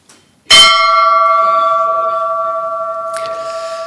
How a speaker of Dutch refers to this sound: de bel te luiden.